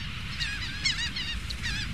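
A rapid series of harsh, honking bird calls repeats several times in quick succession, steady in loudness, over a low rumbling background with no talking. The bird sounds are from the Cornell Lab of Ornithology.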